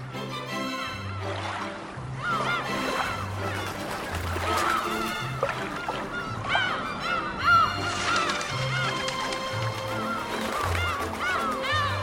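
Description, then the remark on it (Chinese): A large flock of seagulls from Siberia calls continuously over Dianchi Lake in Kunming, China, chasing people on a speeding yacht. Their harsh, overlapping cries are loud, with a steady low hum underneath throughout. “乘着游艇飞驰在滇池上，船体在水面上划出洁白的直线，海鸥追逐着游艇的人们，勾勒出一幅人与自然和谐相处的动人画面。”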